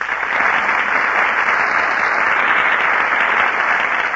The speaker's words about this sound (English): That applause you hear, ladies and gentlemen, is for Alice Faye, Herbert Marshall, and Humphrey Bogart, who are just entering our Gulf Theater stage.